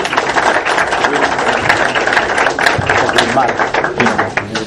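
An audience at a talk applauds steadily to welcome a speaker, a loud, dense patter of many hands clapping at once that holds at an even level for several seconds without a break.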